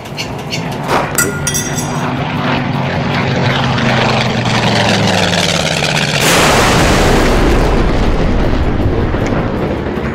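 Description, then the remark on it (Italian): The droning engine of a flying tractor whines as its pitch steadily falls for several seconds while it loses altitude, then a loud crash as it falls into a ravine gives way to a heavy, sustained roaring rumble until the end. “Ma, e qui siamo giunti, il trattore a un certo punto perde quota e cade.”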